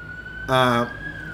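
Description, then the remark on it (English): Sirens of many police cars pouring out hold a steady, high-pitched tone throughout, briefly joined midway by a louder, buzzy blast like a horn lasting about a third of a second. “Hear all the cops? There's something bad going on because they are pouring out of there.”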